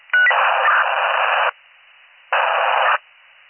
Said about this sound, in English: Seventy-six sixteen, can you call up or use your car radio? It's all static.